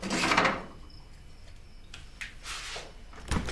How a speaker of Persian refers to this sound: سروش در یخچال رو باز میکنه و یک مایتابه میاره بیرون